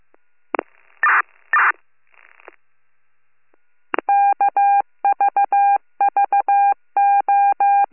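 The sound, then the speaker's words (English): A telephone number being dialed for a return phone call to Amos: a couple of handset clicks and rustles, a pause, then a quick run of about a dozen beeping touch-tones in short clusters, crisp and steady, with no voices. “I have a return phone call here to an Amos.”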